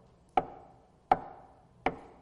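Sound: knocking on a door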